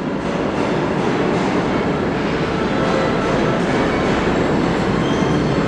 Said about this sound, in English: Yes, ladies and gentlemen, on the very first time on any audio boom, I guess, you can hear the sound of Trash Train. The train that on a nightly basis removes New York's trash. That's why we call it Trash Train.